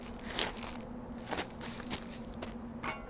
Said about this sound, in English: Aw, nasty. Get off him. What'd you do? Rats picking at it.